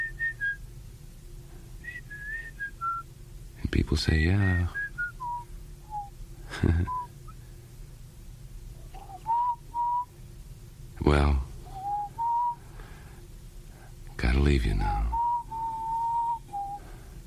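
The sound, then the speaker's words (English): Someone whistles a wandering melody in clear, sustained tones, with a few short spoken words and loud bursts breaking in between phrases. “I just whistle things that I hear on the jukeboxes, you know.”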